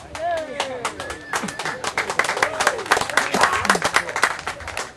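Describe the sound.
An audience breaks into applause for a poet introduced to perform her poetry: dense, steady clapping that builds and holds for several seconds, with a few raised voices and cheers mixed in near the start.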